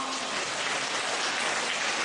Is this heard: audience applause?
yes